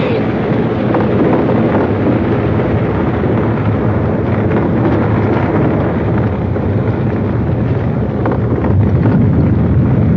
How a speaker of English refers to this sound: Look out! Oh, come on, son. The whole cliff's coming down.